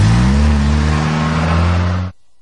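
A car engine roars loudly with a steady, throaty drone for about two seconds, then cuts off abruptly into silence.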